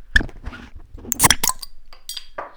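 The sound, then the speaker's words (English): Heineken beer being poured into a glass stein, with several sharp glassy clinks and clatters over a soft splashing pour, no talking. “All right, so I'm going to pour it in my beer stein.”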